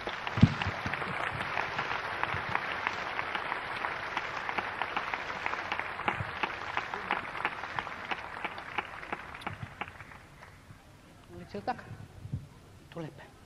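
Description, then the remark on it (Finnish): A crowd applauds steadily for people who work on Bible translation, a dense wash of many hands clapping that holds for about ten seconds before thinning into a few scattered claps and fading out. “Eiköhän me nyt anneta yhdessä näille ystäville sydämemme aplodit.”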